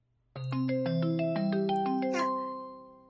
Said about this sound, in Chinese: 是我闺蜜的电话，一定是因为被这个变态贱货给拖延了太长时间，所以等不及了。